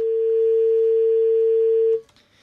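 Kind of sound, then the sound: signal or alarm, telephone line tone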